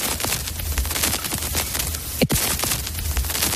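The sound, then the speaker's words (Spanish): Steady crackle of an old vinyl record: dense, irregular clicks and pops over a soft hiss and low rumble, with one louder pop partway through. No voices. “Seguro que te suena, y nunca mejor dicho, es el sonido del crepitar de un vinilo antiguo.”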